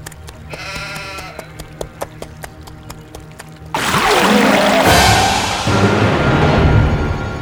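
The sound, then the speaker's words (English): A goat's light hooves clop in a steady trotting rhythm on a hollow wooden bridge, with a faint bleat early on, before a loud rush of water floods in and covers everything. “He hears a goat on the bridge.”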